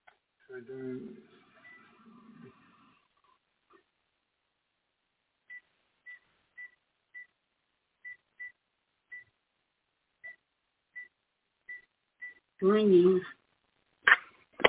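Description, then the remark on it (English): A phone rings with a string of short, high electronic beeps in a steady pattern, following brief muffled talk, then interrupted by a couple of loud, harsh bursts at the end. “Ringing.”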